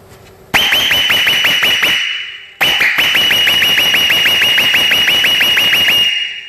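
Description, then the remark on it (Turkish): A loud Seger brand whistle-type air horn blasts in rapid repeating pulses, a shrill high tone stuttering about a dozen times per burst, in two long bursts separated by a brief pause, with no talking. “Ve şimdi ıslık kornamızı tekrardan sizlere dinleteceğiz.”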